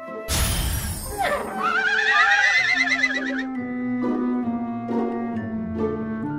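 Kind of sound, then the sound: animal, horses neighing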